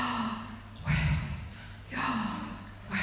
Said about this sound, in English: It's a breathing in and a breathing out. That's how we say his name authentically, I guess.